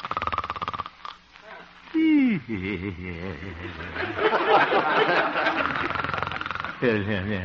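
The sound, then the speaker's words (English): A man snores softly and steadily in his sleep, a voiced, rumbling snore with wavering pitch and occasional whistling exhales, fairly clear, likely performed by a voice actor; the sleeper is the radio character Honest Harold the Homemaker, in a little house on 8th Avenue, having a pleasant dream. “Looking into the little house on 8th Avenue, we find the town's most popular radio figure, Honest Harold the Homemaker, gently snoring and evidently having a very pleasant dream.”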